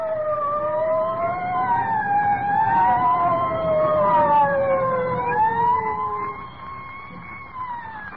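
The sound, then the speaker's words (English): Several emergency vehicle sirens wail together, their rising and falling tones overlapping over a low traffic rumble. They stay loud and steady throughout, easing slightly toward the end, with no one talking. “I don't like the sound of them sirens.”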